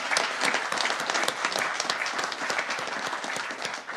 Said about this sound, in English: Let me just give you the grand total, and we'll clap one last time.